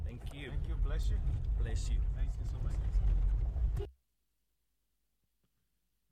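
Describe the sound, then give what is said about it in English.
A car rolls along a rough, badly repaired road, not off-road, with a steady, heavy low rumble beneath voices trading quick thanks for about four seconds, then it cuts to near silence. “Yeah, so you saw how the car went. That wasn't off-road, that was the road.”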